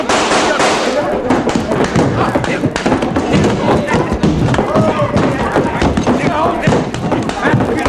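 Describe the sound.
Sharp, loud gunshot cracks from a gun grabbed off a table burst out repeatedly amid a dense, chaotic brawl of thumps and crashes in a judge's saloon, with raised voices mixed into the commotion throughout.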